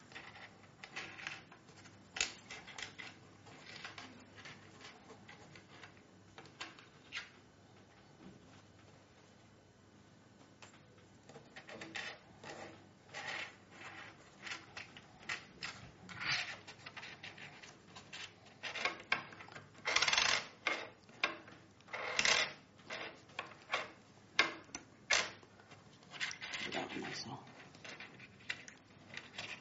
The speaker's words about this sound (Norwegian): Plukk opp de fire myntene som ligger på bordet eller i boksen, og legg to mynter i hver av de to pengepunktene som sitter på plata.